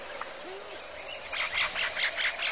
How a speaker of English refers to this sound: First, the insects establish their acoustic territory within the frequency spectrum. And then the reptiles and the amphibians join the chorus, establishing other niches. Then come the birds.